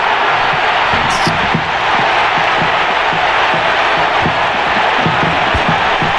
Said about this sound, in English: I mean, the way he's, like, dancing back and forth with the crowd there is something that I just find incredible, that it almost felt like the crowd was roaring back at him as he was calling every cut.